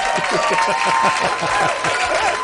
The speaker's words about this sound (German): Lärm ist super, hier kommt ein Applaus.